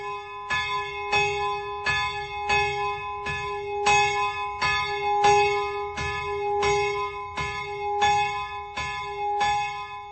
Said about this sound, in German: Es gibt dort nämlich keine elektronisch betätigte Glocke. Hinter dem Presbyterium gibt es einen kleinen Raum, den Chor. Dort hängt eine Schnur von der Decke, mit der 10 Minuten vor der Messe die Glocke geläutet wird.